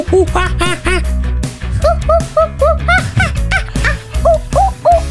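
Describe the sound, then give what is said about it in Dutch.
A person imitates a monkey with a rapid run of high, swooping hoots and whoops, repeated in quick bursts over a steady low droning background. “Hoe doet een aap dan? Oh, ik vind jou een hele goede aap.”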